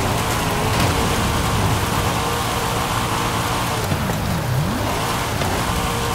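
car engine revving

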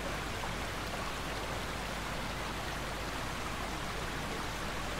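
running water

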